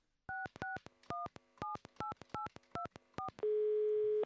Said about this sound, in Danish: Vi ringer ham nu op.